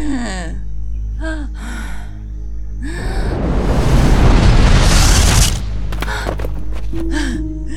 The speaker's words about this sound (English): A massive pile of rubble begins to move and then suddenly blasts away, revealing Rita Bandora in a purple dome shield beneath the collapsed structure.